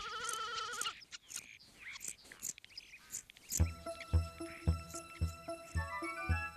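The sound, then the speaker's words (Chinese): A lamb being sheared of its wool with big scissors lets out one wavering, quavering bleat, loud, then scattered noises follow before a steady, beat-driven melody takes over. “有一天呀，派乐拿了一把大剪刀，把小绵羊身上的羊毛都剪了下来。”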